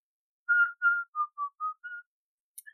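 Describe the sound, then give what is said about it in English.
A person whistles a short, cheerful tune of about six clear, steady notes, moderately loud, followed by a brief high chirp; no talking. “I think we need to distract ourselves by looking in some boxes and whistling a happy tune.”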